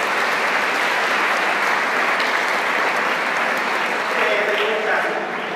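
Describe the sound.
An audience claps steadily for several seconds, a dense, loud wash of applause that holds an even level throughout, with a faint voice briefly rising over it near the end.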